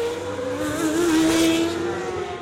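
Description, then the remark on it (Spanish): Racing cars accelerate hard off the start of a 66-lap race on a 4,655-metre circuit, engines screaming at high revs with a rising whine as the pack surges past, Hamilton taking the lead ahead of Bottas and Vettel; loud and continuous with no talking. “Před malým okamžikem jezdci vyjeli do zaváděcího kola a bylo odstartováno.”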